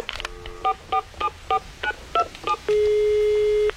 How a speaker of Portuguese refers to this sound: Dá esse telefone aqui que eu mesmo ligo, vai, meu.